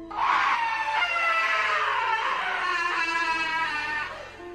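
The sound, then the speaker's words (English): A loud, high-pitched scream is held for several seconds, steady and piercing with only slight wavering in pitch, then trails off near the end. There is no talking. “As we were running, the scream was heard again, this time a lot louder, indicating that whatever this was following us.”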